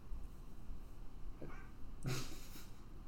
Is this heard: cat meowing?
yes